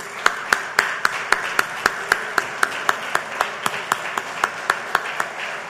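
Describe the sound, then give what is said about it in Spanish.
A crowd of more than 600 ANDA colleagues gathered together claps in a steady, rhythmic beat, sharp evenly spaced claps over a wash of softer applause and background noise, sustained throughout. “Más de 600 compañeros de ANDA están hoy reunidos, para los cuales pido un fuerte aplauso.”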